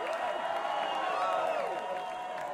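A live show audience claps and cheers for a band member in a steady, dense wash of sound, with rising and falling whoops riding over the applause for a couple of seconds.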